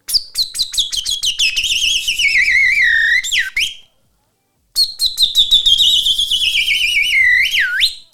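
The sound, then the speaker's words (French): A man whistles a loud imitation of a chaffinch song with both hands over his mouth: two bright phrases of rapid chirps that tumble downward and end in a quick flourish, split by a brief silence. “Il faut que tu nous fasses un extrait là, d'un pinson.”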